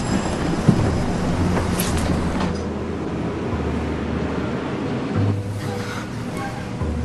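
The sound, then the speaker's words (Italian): A train bound for Montauk rolls steadily along the rails, a dense, continuous low rumble, broken by an occasional sharp clank and a brief swell in the noise. “Ho preso un treno per Montauk.”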